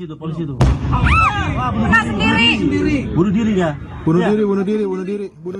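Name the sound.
explosions and gunfire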